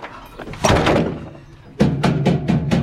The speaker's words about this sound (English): Bree's mother pulls the door open, gasps, and shuts the door.